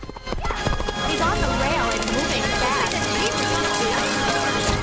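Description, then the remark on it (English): Horses gallop across turf in a race that includes a zebra called Stripes, hooves pounding in a fast, continuous drumming and kicking up clods of earth, loud throughout, with reporters' commentary, voices and commotion mixed in underneath. “Their hooves kick up clods of earth into the zebra's face.”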